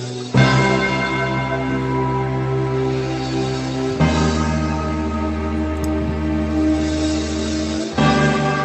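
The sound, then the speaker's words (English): A deep bell tolls three times, roughly four seconds apart, each loud strike ringing out over a heavy, sustained low drone in a song mashup, with no voices. “I love the idea of those bells, just like...”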